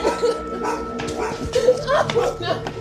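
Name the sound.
dogs barking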